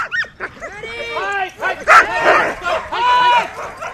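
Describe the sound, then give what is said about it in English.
A pack of Husky sled dogs barks and yips excitedly during practice rides around a park, their high, overlapping cries and whines rising and falling in quick bursts, loud throughout. “As the dogs take some practice rides around the park,”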